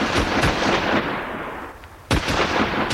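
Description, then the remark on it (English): A ragged volley of shotgun blasts fired at a flock of 30 to 40 birds put up all in one lot: several sharp, loud bangs in quick irregular succession, a brief lull, then another cluster of shots, each trailing off into a rumbling, noisy tail. “Definitely not the way to put up birds. I just do not believe it. Must have been 30, 40 birds, all in one lot.”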